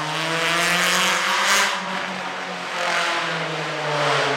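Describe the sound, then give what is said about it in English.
A loud motorcycle engine roars, its revving rising and dipping in steady harmonic drones, swelling twice as it passes a city garden. No voices are heard. “Yes, in the garden you can hear everything, trucks, airplanes, loud motorcycles”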